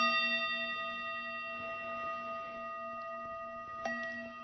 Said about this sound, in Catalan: Estan dormint al País del Silenci, quan encara no ha sortit el sol. I amb el so de les campanes es desperten els més matiners.